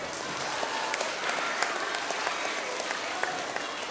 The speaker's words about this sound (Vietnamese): Nếu có con mà làm được như thế thì cho một tràng vỗ tay thật lớn nào.